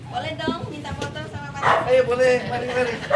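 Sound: dogs barking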